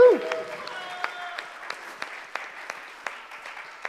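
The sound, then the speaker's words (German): A stage show audience claps steadily at moderate volume as two contestants return to the stage for the finale, a dense patter with a few sharper individual claps standing out. A voice trails off briefly at the very start. “Und jetzt ein bisschen noch intensiveren Applaus, aber noch nicht.”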